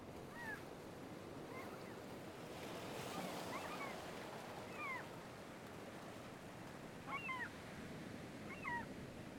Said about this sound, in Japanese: おかげで海のある毎日が当たり前になっちゃった。物心つく前から、お母さんのお腹の中にいる時からずっと波音を聞いてて、だからこうやってると すごく落ち着くのかな。